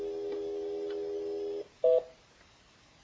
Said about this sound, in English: Is she pushing the button? Is she dialing?